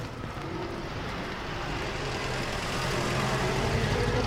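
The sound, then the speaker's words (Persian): A steady car engine rumble with a low, even hum holds constant throughout as a man gets into his car, with no voices present. “سوار ماشینش میشه.”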